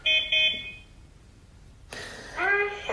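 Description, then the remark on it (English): A toy robot, running code that has turned it left twice, gives two quick, buzzy electronic horn beeps in a row, clear. After a short lull, a voice-like electronic sound comes in. “He said hi, and he beeped his horn.”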